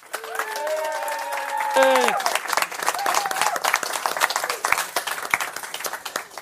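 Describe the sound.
A voice rings out over the opening seconds, then a crowd breaks into warm, steady applause: dense, fast clapping that holds at an even, fairly loud level to the end.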